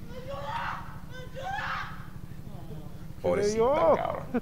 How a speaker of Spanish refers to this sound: Pon el audio otra vez para que escuchen los gritos. A ver si se puede escuchar ahí.